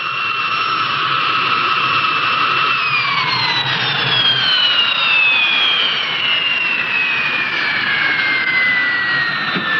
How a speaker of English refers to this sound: Later, the plane lands in New Mexico.